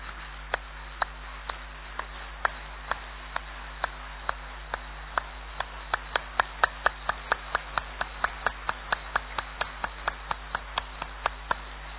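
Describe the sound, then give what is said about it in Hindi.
An audience claps hands in unison, sharp regular claps that start slow and quicken into a steady, brisk rhythm. A low constant hum runs underneath and no one speaks. “तो बहुत अच्छा, अभी तालियां बजाएंगे जरा एक बार।”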